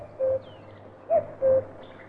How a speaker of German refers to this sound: Hörst du? Der Kuckuck ruft. Erst jetzt ist der Frühling wirklich da.